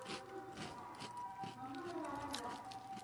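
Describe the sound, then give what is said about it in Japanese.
A faint ambulance siren wails outside as the ambulance passes by, a steady tone drifting slightly in pitch, with quiet indistinct voices over it. “外も今救急車通りましたけども。”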